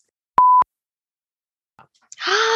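A single loud, steady censor bleep lasting about a quarter second, followed by near silence, then a voice-like burst rising up near the end.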